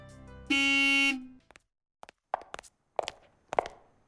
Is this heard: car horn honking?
yes